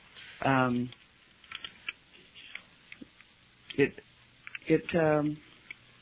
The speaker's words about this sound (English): I'm so excited about this, I want to get on the internet and look. She's typing as we speak, I love it.